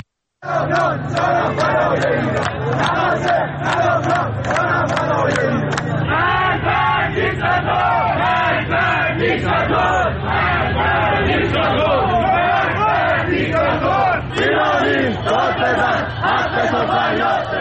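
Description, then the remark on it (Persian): A large crowd of protesters in Iran chants political slogans in unison, loud and continuous, with many voices shouting together in rhythmic bursts and sharp repeated accents early on, over a constant roar of voices. “معترضان در شهرهای تهران، شیراز، گوهردشت، قهدریجان، اصفهان، مشهد، اندیمشک و کرمانشاه در حال سر دادن شعارهایی با مضامین اغلب سیاسی مشاهده می‌شوند.”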